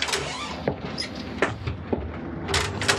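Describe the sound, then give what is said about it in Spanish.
Several short knocks and clunks spaced across a steady background rumble as a car door opens and shuts while a man gets out of the stopped car and leaves it, followed by a brief rustling burst. “Luego desciende del auto y lo abandona.”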